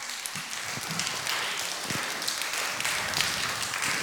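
A church audience applauds the person who made decorated bags for the service, a steady, dense patter of many hands clapping together, holding at an even level for about four seconds with no voices over it.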